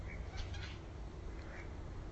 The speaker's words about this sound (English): It sounds like a wattle bird, but there's something else that hasn't got the right shape.